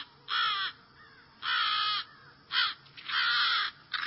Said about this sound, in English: Hearing American crows defending their nest, protecting their young.